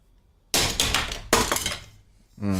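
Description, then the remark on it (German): A stone die is thrown onto a computer mouse: two sharp, bright clattering impacts about a second apart, each ringing out briefly, before a voice starts speaking at the end. “Ich habe den auf meine Computermaus geschmissen.”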